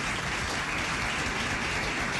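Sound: audience applause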